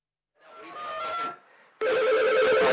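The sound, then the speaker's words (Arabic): A telephone rings on an outgoing call to the phone of Sheikh Khalid al-Wusabi, who does not answer: a steady tonal ring fades in, pauses briefly, then resumes louder and sustained, with no talking. “كيف ان يدق على التليفون؟”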